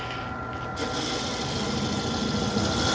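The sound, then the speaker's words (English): A power sander runs steadily with a gritty, buzzing whine that grows rougher and louder under a second in as it bites into a wood block, mounted in a jig on a rod to square off its end against a tube, then keeps grinding evenly. No one speaks. “Lock it down. Start it up. And then sand it off.”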